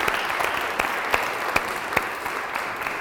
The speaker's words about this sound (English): When you actually say that, you realise what we've done as a church is brilliant, isn't it? And I think we should give ourselves a huge round of applause, because we're doing really well. We're doing really well.